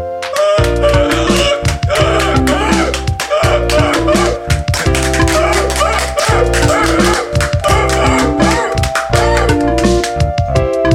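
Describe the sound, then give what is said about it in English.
A voice imitates a seal's barking with repeated, rhythmic bark-like calls over a loud, steady musical accompaniment with a strong low bass. “They like to swim and clap their fins and talk to you like this.”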